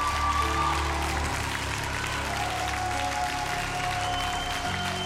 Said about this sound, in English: Come on, don't give Jesus a golf clap. Give Jesus a victory clap. Give Jesus a victory clap. Give him a victory clap.